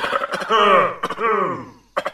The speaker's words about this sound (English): Oh, that cough sounds nasty. Can I help you with that?